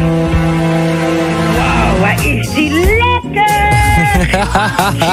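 A pop song plays loudly and continuously, with a sung vocal line sliding between notes over steady, full instrumental backing and a sustained bass.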